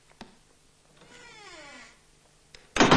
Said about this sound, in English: As she moves into the hall, she turns to see the door swinging shut behind her.